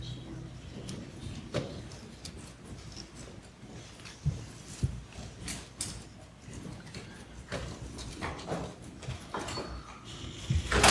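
A courtroom door being opened, with a series of latch clicks, soft thumps and a scraping slide over faint background noise and murmuring, ending in a louder knock as it settles.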